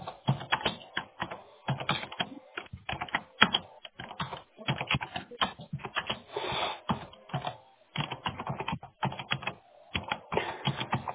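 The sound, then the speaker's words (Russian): Rapid, uneven keyboard typing as someone writes up a service request, bursts of clicking keystrokes with brief pauses in between, continuing steadily throughout with no one speaking. “Так, пишу заявку.”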